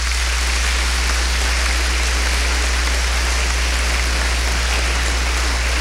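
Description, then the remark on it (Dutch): A crowd applauds for the Lord, a dense wash of many hands clapping that holds at an even, fairly loud level for about six seconds, with no voices rising above it. “Als je de Heer een applaus wil geven, geef hem een applaus.”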